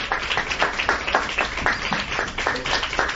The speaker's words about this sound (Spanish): Desde este programa queremos sumarnos de forma simbólica a esos aplausos.